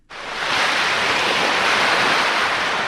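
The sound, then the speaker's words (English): A steady, loud rush of ocean surf washes in at a small campsite near the ocean at Wunjunga near Townsville, North Queensland, at almost dusk, a continuous broad roar with no distinct breaks and no voices. “At a small campsite near the ocean, dinner preparations are underway.”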